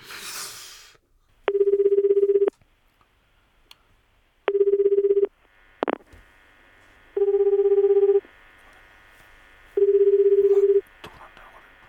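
A call to a family-home landline rings out on a Sunday just before 9 and goes unanswered: a brief burst of noise at the start, then four buzzy ringback tones, each about a second long, repeating at steady intervals over a faint line hiss.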